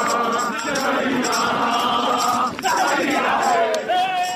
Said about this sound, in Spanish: Toman el baúl, se lo colocan sobre sus hombros y van todos caminando y cantando.